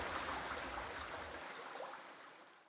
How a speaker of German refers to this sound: Am Lagerplatz sprudelt eine kleine Quelle klares Wasser aus dem Fels.